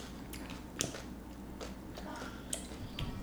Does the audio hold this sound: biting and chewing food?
yes